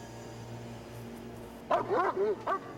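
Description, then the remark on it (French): A police dog gives a quick series of sharp, yappy barks, about four in a row, fairly loud after a stretch of low background hum, at a van in a hotel parking lot, signaling that there is no danger. “Le chien jappa pour indiquer qu'il n'y avait pas de danger, mais McClung et l'agent qui l'accompagnait ne tinrent rien pour acquis.”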